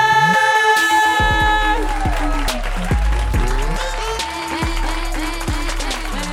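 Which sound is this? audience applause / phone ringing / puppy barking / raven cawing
audience applause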